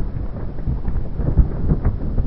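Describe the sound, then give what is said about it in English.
A massive iceberg, about a kilometer thick and maybe 400 meters wide, flips on its side in the ocean, giving off a deep, continuous rumbling roar with churning low booms and crackles throughout, loud and steady with no voices. “You get these icebergs that are about a kilometer thick and maybe 400 meters wide, and they flip on their sides.”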